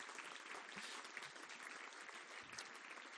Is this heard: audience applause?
yes